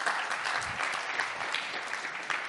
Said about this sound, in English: you're the only one that was clapping then. It was like you're clapping yourself.